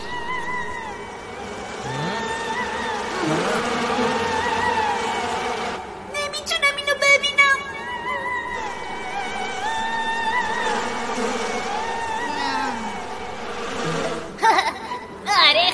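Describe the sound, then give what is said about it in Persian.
A bee buzzes steadily and close by for the whole stretch, its drone sliding up and down in pitch, broken by a couple of short rattling bursts. “این عالیه، زنبورچی حرفشو گوش میکنه”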